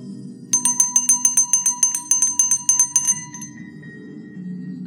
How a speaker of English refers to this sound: You hear the bell ring, and then onto your shoulder appears Aranel, and Aranel says, "Follow!"